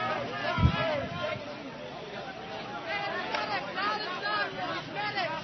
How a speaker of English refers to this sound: There's gas in front of the crowd, gas to the sides of it, and gas behind it. The crowd is being driven along the street with the tear gas bombs.